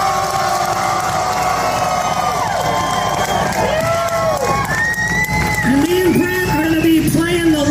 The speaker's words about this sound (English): Round of applause for Mr. ….